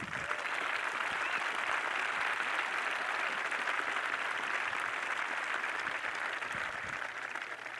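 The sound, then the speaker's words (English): An audience claps steadily for about eight seconds as a show of applause answering a question, a dense, even wash of many hands applauding at once with no voices rising above it. “Each of those claps represents a different story.”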